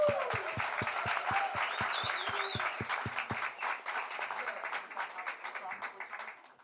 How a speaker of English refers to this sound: Give our guests a big round of applause.